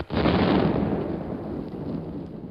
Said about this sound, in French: C'est l'explosion de Nebout de la grosse Bertha sur la maternité de la rue d'Assas. Explosion qui fit tant de victimes parmi les femmes perturbantes.